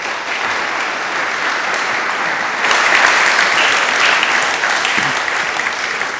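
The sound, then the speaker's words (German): A crowd applauds steadily and warmly for several seconds, a dense wash of clapping that swells slightly partway through and carries on without any talking, welcoming a guest onto the stage at a gathering in Murten. “Wir können willkommen heißen mit einem Applaus.”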